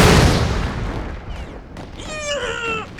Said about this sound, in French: Rampant dans la boue, on entend des bombes exploser partout.